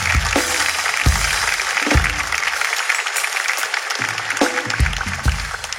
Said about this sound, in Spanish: Este aplauso para...